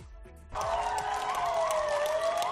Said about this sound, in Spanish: Seguro que recuerda los aplausos a los sanitarios que se han convertido en un auténtico símbolo de esta pandemia, ¿verdad? A las 8 en los balcones para agradecerles su lucha contra el coronavirus en primera línea.